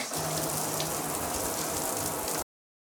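Steady hiss of shower water pouring and splashing as someone takes a shower, loud, continuous for about two and a half seconds before cutting off abruptly.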